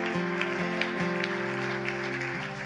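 A crowd claps steadily, a dense wash of hand claps that holds at the same level throughout, with sustained keyboard-like chords playing underneath.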